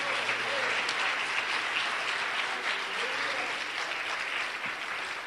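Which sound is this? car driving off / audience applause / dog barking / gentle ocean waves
audience applause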